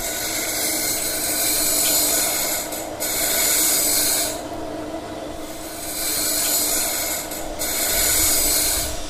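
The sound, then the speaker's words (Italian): Machines in the Auroville workshop where the discs covering the Matrimandir are made, working on metal discs, give off a dense, hissing, grinding roar that swells and eases in cycles about every four seconds, with short quieter dips between. No one speaks. “Delle macchine in azione.”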